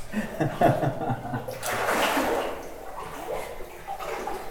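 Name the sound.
water splashing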